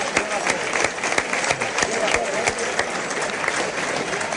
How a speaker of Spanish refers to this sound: Bueno, los aplausos iniciales que están escuchando es para el toro, claro, la vuelta al ruedo. Ahora va pasando debajo nuestra y el público, pues bueno, prácticamente unanimidad en los aplausos.